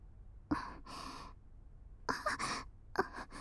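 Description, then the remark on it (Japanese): Three pairs of breathy puffs blown straight into the microphone, each a sharp onset followed by a longer airy hiss, with short pauses between them and no talking. “あまり吐息吹きかけないでください。”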